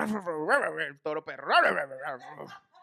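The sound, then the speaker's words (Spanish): A man's voice mimics a bull's bellow in several loud, drawn-out bursts with swooping pitch, broken by short pauses. “Uno no puede hacer una imitación de un toro con moco.”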